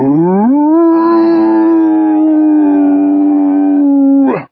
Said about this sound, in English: The word turned into a long, liquid howl.